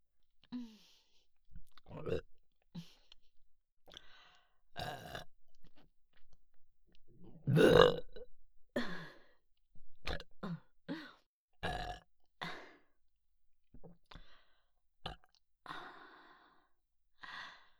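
repeated burping

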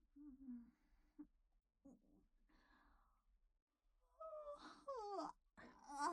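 yawn

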